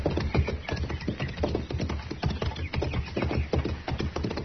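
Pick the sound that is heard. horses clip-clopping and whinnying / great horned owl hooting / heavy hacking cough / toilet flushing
horses clip-clopping and whinnying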